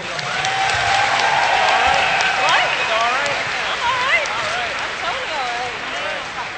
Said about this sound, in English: Again, round of applause.